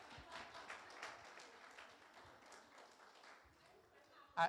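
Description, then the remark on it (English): An audience claps steadily for several seconds, a dense patter of many hands that fades slightly before a brief louder burst at the end. “I hope the clapping was for happily marriages, not, yeah, my marriage is horrible.”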